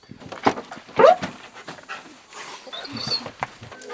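A dog inside a car pants rapidly and excitedly, its quick breaths broken by a couple of louder vocal bursts and whines.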